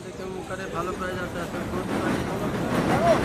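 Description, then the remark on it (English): An elevated L train in New York rumbles overhead, a broad low roar that swells steadily louder over a few seconds, with faint indistinct voices and street bustle mixed underneath. “The L train rumbles overhead.”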